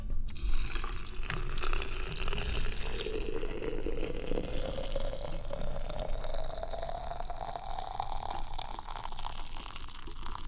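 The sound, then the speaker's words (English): A steady stream of water is poured one-handed into a small teapot to brew tea, a continuous splashing whose pitch rises gradually as it fills over about ten seconds, with no talking. “And we're going to pour the water in.”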